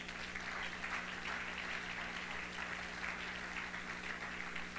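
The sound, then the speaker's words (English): An audience claps steadily for about five seconds after a preacher urges them to clap during a sermon, a dense, even patter of many hands with a low constant hum beneath and no voices. “Oh, you ought to clap your hands right there.”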